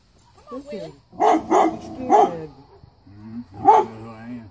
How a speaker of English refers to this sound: The dog who doesn't recognize his owner, who's been in the hospital for like 5 months, lost a ton of weight, and the dog's freaking out, doesn't know who it is, and then the dog gets a sniff of the owner and goes bananas.